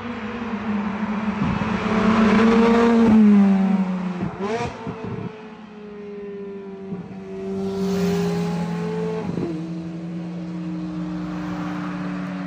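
A Scuderia sports car engine roars loudly as it accelerates toward the listener and sweeps past, its pitch dropping through a couple of sharp downshifts before settling into a steady, fading drone.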